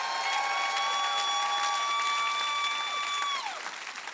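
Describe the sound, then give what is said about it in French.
An audience breaks into steady, dense applause lasting several seconds, given as an ovation for the souls who come to Jesus, with a sustained high electronic tone ringing over the clapping before sliding downward near the end. “Vous qui applaudissez pour un match de foot ou pour un artiste, est-ce qu'on peut donner une ovation pour les âmes qui viennent à Jésus?”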